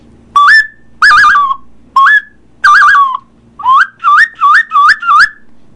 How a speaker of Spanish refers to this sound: El silbato te emite un sonido, por decirlo así, que si tú mueves el dedo, tapas, destapas y soplas y resoplas y todo, fíjate lo que hace.